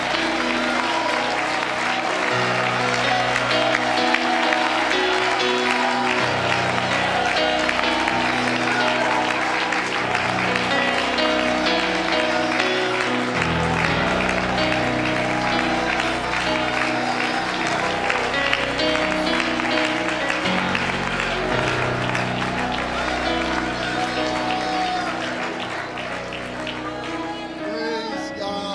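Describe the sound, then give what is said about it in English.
An audience claps hands and shouts together in sustained worship of Jesus, a dense, loud wash of applause and raised voices that continues steadily for the whole stretch, easing slightly near the end. “I wonder if you would shout with your voice and clap with your hands and just worship Jesus.”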